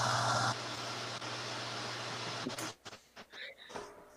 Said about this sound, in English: Oh, there was an air compressor that decided to kick on, but just so happens the breaker switch is actually right next to me, so I was able to shut the